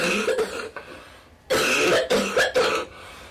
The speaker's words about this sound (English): researchers are gathering data by recording as many coughs as possible. Remember, you're coughing. Don't be shy, you can cough anytime. We know you're here because you have a cough. I'm going to press start now.